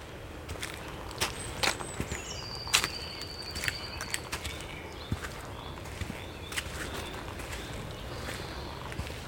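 At the end of the day in a forest, a bird gives a thin, drawn-out whistling territorial call, heard faintly over intermittent crunching footsteps and soft clicks on the ground.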